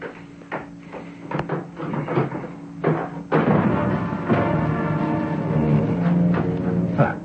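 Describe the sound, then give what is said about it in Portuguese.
A drawer is pulled open with a few wooden knocks and clicks, then a steady rummaging and rattling of objects as someone searches through its contents for a piece of cord and a tiny medal. No one speaks. “Estão aqui mesmo na minha gaveta, deixa eu ver.”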